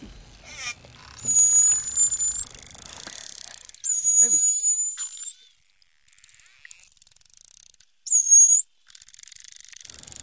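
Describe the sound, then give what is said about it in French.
Three high, thin whistles from a dolphin, each a steady tone ending in a quick upward sweep, separated by pauses filled with faint rapid echolocation clicking. “Des sifflements.”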